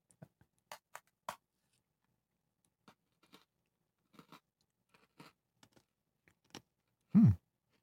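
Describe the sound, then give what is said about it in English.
Crunching of someone biting into a crisp mint-flavored Oreo cookie and chewing, with scattered sharp crackles and quiet pauses between, ending in a short, louder hummed murmur. “Let's get in here and get a bite.”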